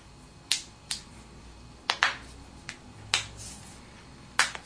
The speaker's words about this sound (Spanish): El soldado se suena los dedos.